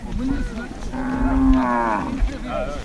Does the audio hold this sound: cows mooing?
yes